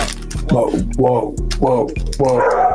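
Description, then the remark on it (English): A dog named Zeus barks four times in a steady rhythm, fairly loud, with short howling, whining tones in each bark over a constant low hum. “Zeus doesn't like cat talk. He's a dog.”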